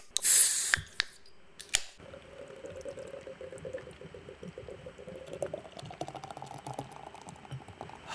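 A can of Guinness snaps open with a sharp hiss, followed by a few clicks and then a long, steady pour, the liquid gurgling and fizzing as the glass fills.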